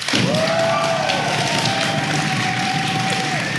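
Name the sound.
audience applause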